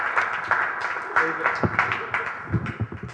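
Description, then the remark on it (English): An audience at Redemption Church applauds steadily for its care pastor, dense clapping mixed with cheering voices from a crowd, fairly loud and continuous throughout with a few sharper claps standing out near the end. “I want you to put your hands together for our care pastor,”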